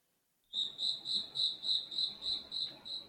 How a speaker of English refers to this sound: You got a crickets sound effect? I'll find one.